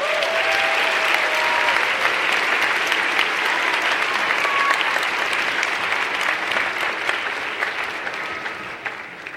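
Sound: audience applause at ceremony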